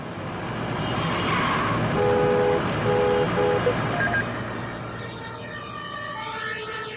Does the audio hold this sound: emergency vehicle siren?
yes